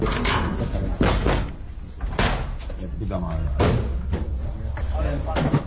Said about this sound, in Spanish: Así empieza cualquier desahucio. Se llama a la puerta, si hay llave se abre, si hay gente dentro se espera que abran, y si no hay más remedio se recurre a un cerrajero.